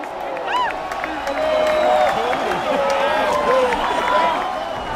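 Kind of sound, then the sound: crowd, stadium crowd cheering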